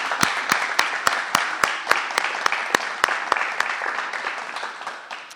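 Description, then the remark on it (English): An audience applauds steadily for about five seconds, a dense wash of many hands clapping with a few sharp, louder claps standing out in a loose rhythm, no voices heard. The applause is for students' family, friends and guardians at a university student award ceremony. “Can we give your family, friends, guardians a hand clap?”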